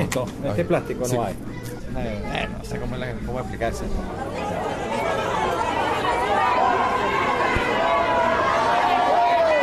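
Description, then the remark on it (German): A steady hubbub of many overlapping voices from people waiting in a queue outside a household goods shop in Venezuela, where kitchen mixers are to be sold, with no single voice standing out; a few higher-pitched voices rise above the babble later on. “So klingt Venezuela ohne Devisen. Eine Warteschlange vor einem Haushaltswarengeschäft.”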